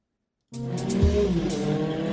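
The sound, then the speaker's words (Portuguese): After a brief silence, a MotoGP racing motorcycle engine at the Hungarian Grand Prix bursts in loud, its high-pitched whine revving and accelerating steadily with a raspy, buzzing tone. No one speaks. “E a gente vai começar acelerando com a MotoGP.”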